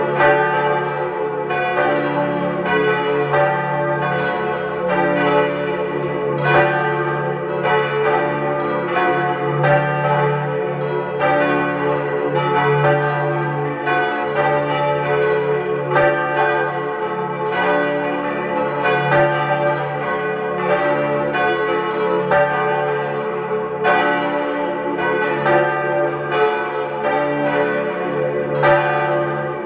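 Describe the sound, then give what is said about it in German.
Several bells of the parish church of St. Lawrence in Tristach, East Tyrol, peal together at 12 noon in a dense, continuous ringing, overlapping strikes blending into a steady resonant wash of tones that stays loud and full for the whole stretch, with no voices. “Sie hören die Glocken der Pfarrkirche zum heiligen Laurentius in Tristach in Osttirol.”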